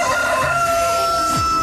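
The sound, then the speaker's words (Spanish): The Radio Activa rooster lets out a single loud crow on a Tuesday morning, a drawn-out cock-a-doodle-doo with a bright, strained tone, heard on its own with no talking. “Bueno, aquí estamos de vuelta con el gallo de Radio Activa en esta mañana, martes ya, martes.”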